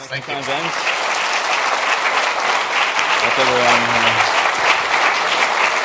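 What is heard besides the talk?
audience applause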